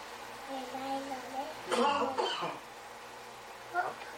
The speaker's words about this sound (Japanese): パパが今何したの？咳コンコンしたね。